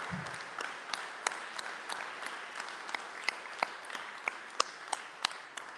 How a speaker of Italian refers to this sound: Ed è molto importante dedicargli appunto un applauso, un sentito applauso.